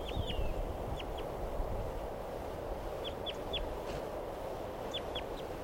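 A wild bird calls in short, high, downward chirps, clustered in twos and threes with pauses between, over a steady bed of low rumbling background noise.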